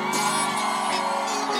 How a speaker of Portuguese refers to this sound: Quem tá feliz, joga a mão e dá um grito, Recife!